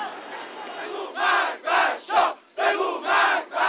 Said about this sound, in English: The crowd shouted death to the Shah.